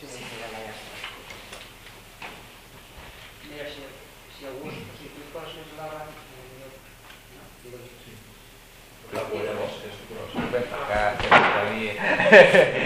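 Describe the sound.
People talk, then a chair beside someone is moved into place for them to rest their feet on, with a run of loud knocks and scraping clatter over the last few seconds, partly under continuing voices.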